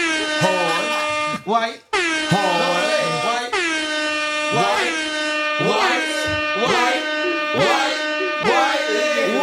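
A loud, buzzy air horn blares almost nonstop for about nine seconds, cutting out briefly near the start, its harsh tone wavering and pulsing slightly in pitch throughout.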